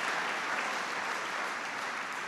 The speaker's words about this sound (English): In fact, I just got sanctioned by heaven. God liked it. That was an applause from heaven. That line was so good, even God just endorsed it.